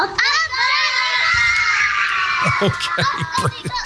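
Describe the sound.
A group of young children shrieks and cheers for Donegal, a loud, sustained high-pitched roar of voices that swells and wavers for several seconds before breaking into scattered excited shouts.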